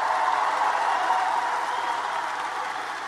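Sustained applause from an audience for a speaker at an election campaign event, a dense, steady wash of many hands clapping at once, holding fairly loud throughout and easing off only slightly toward the end, with no voices standing out.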